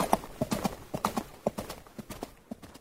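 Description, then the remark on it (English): Horse hooves clip-clopping as two men ride their horses off to a race course, in a quick, uneven rhythm, the sharp knocks moderately loud, continuing steadily for a few seconds before thinning out toward the end. “Once the wager is set, they ride off to the race course.”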